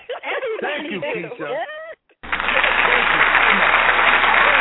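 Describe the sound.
A person speaks briefly, then after a short pause a dense, steady wash of clapping starts and holds at full volume until the end.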